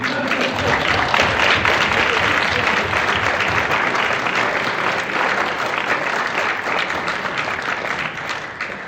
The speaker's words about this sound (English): The ayes have it. There should be a round of applause for that.